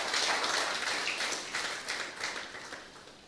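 An audience claps together, giving a hand for an introduction, in a steady, dense patter of many hands, fairly soft overall and tapering slightly toward the end, with no voices over it.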